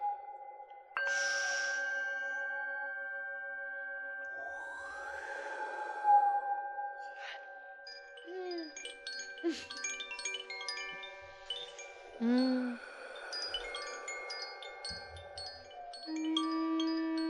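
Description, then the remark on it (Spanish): Wind chimes ring in overlapping, sustained metallic tones, struck irregularly at several different pitches so that each note lingers and blends with the next, at moderate loudness with no voices. “yo tengo unas campanitas en la terraza de mi casa que también hacen este sonido”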